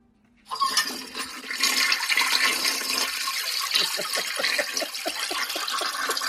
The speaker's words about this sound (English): There it goes. It's a long flush. My toilet doesn't run that long.